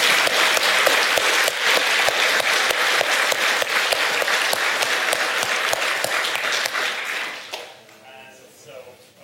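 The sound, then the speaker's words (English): A crowd claps loudly for the event's sponsors in a dense, steady burst of applause for about seven seconds, then the clapping fades out and a voice starts talking. “So thanks a big, and I want to give an applause to the sponsors.”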